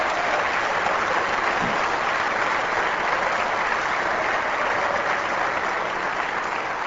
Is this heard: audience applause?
yes